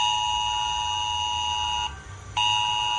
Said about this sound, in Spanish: Medio millón de asturianos de 39 concejos distintos han recibido esta alerta en su móvil en torno a las 10 de la mañana. Como ya te veníamos advirtiendo, se ha tratado de un simulacro.